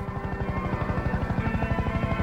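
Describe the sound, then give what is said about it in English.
A military green helicopter approaches and swoops low over a highway before setting down on the road. Its rotor chops in a fast, steady thumping rhythm over a droning engine whine, loud, with no voices. “A helicopter approaches behind him. It swoops low over the asphalt.”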